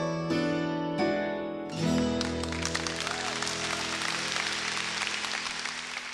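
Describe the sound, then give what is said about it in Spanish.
Audience applause for the performing artist breaks out after a few sustained musical chords, swelling into a dense, steady clapping that continues to the end while held tones linger underneath. “Supera ese aplauso por 10-1 todavía.”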